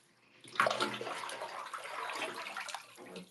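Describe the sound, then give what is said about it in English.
Water gushes steadily into a bathtub, a continuous rushing and splashing that starts abruptly and holds at a fairly even level, with no voices. “Let's see, does this amount of water sound better to you, Jeanette?”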